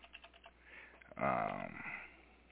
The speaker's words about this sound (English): Here we go. I'm typing with one hand.